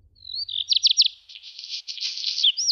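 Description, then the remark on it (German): Black redstart song, clear: a thin whistled opening, a few quick warbled notes, then a dry, crackling scratchy passage before a final bright flourish, with no other sounds. “Das ist der Vogel des Jahres 2025. Der Hausrotschwanz, ein recht verbreiteter Vogel bei uns in den Siedlungen, kommt auch in die Gärten”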